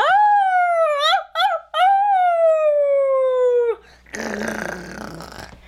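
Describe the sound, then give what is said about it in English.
A person imitates a wolf howl: a long, loud, wavering cry with a couple of quick breaks early on, ending in a falling tail, followed by a burst of breathy, rustling noise. “You wanted to do wolf, right?”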